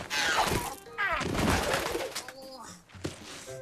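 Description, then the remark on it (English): A pigeon coos amid a loud, busy scuffle of noise as someone leaps at it to catch it, with brief vocal sounds mixed in and a sharp clatter near the end. “… leaps at a pigeon.”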